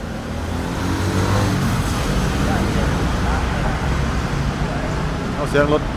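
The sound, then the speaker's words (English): A car engine runs steadily amid loud street traffic, a continuous low rumble with faint background voices and a brief higher-pitched whine near the end. “There's the sound of a car running.”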